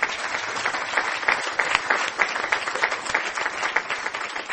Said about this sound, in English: Steve, will you stand up and let us give you a round of applause?